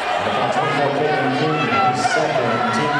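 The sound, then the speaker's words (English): A loud, dense basketball arena crowd at an Oakland versus Riverdale game roars and chatters continuously, a steady wall of overlapping voices with occasional brighter shouts rising above the din. “This crowd is so loud, I never even heard the whistle right there.”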